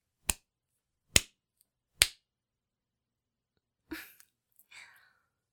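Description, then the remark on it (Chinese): Three sharp hand claps in a slow, even rhythm, each standing alone in silence, followed by a couple of softer, breathy rustling sounds. “主人是不是应该给你鼓鼓掌啊？”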